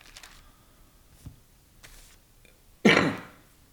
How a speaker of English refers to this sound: I'm turning pages because I want to read a couple things before we close.